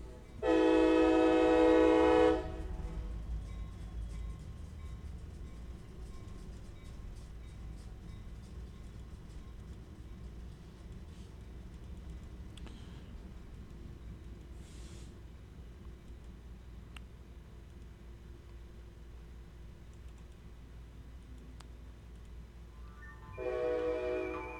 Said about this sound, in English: Oh, and there's the train coming by.